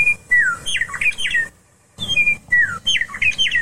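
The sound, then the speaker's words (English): A meadowlark, a yellow-breasted, robin-sized bird, sings two bright, flute-like phrases of slurred, descending whistles, separated by a short pause. The song is clear, heard alone over faint outdoor background. “Folks, having grown up on the slice of the geography that lies between the peaks of the Rocky Mountains and the grasslands of the high prairie, I learned at a very early age to take great joy in the song of the meadowlark.”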